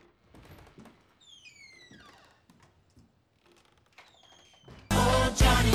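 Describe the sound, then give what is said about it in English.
Several dull, hollow knocks, made quickly on Holmes's wooden door in Baker Street, come in short, uneven groups with brief pauses between them, joined by a few faint squeaks, before a sudden loud rush of noise cuts in. “I went up the stairs and knocked at his door quickly.”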